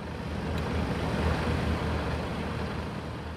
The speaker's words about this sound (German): Wie ein riesiges Raumschiff ragt die helle Halle aus der Landschaft. Die Lkw, die sich vor der Einfahrt stauen, wirken winzig.